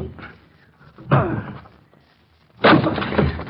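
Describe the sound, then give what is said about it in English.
A locked study door is forced in with two loud, heavy crashing blows about a second and a half apart, after a lighter knock at the start. Each impact booms, then rumbles off. “I'm going to break in the door.”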